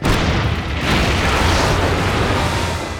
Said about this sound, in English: Every's cannon spat fire. Cannonballs blasted into the side of the gunsway.